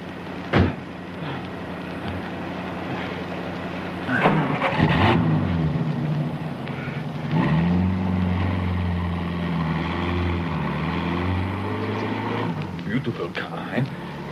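A car engine hums steadily as the vehicle drives, its low droning pitch dipping and then climbing as it revs up and pulls away, with a few clunks and knocks along the way.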